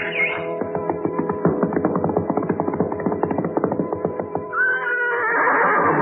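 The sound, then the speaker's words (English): A black stallion neighs loudly, a long shaky whinny with rapid pulsing vibrato that rises at the start and ends in a breathy, wavering squeal. “There we found a beautiful black stallion.”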